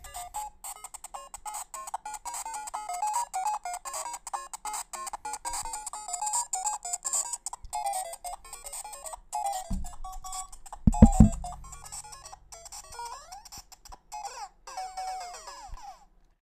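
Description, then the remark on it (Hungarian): Chiptune music from a knock-off video game that imitates the real Mario music, with a bright, beeping melody over a hiss of white noise, joined midway by a low thud and a short burst of crunchy sound effects before the tune carries on. “Én megjegyzem, még a zenéje is amúgy az igazi Mario-jéhoz akar hasonlítani, meg van benne fehér zaj.”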